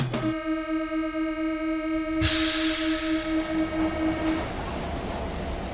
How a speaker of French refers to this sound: Et alors là, on est dans le métro. Je hurle un peu parce qu'il y a la distanciation qui est là.